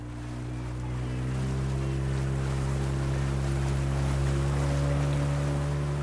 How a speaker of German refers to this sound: Ein kleines Motorboot verkehrt zwischen der Stadt und der Musulo-Halbinsel, die eigentlich nur ein einziger langer Strand ist.